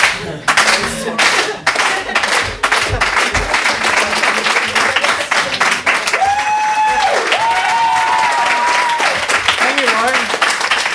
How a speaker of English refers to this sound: I'm afraid that I'm not funny, and my biggest dream in the whole world is to one day just spontaneously get a slow clap. Like, that's all I really want in my whole life. Not spontaneous. I know.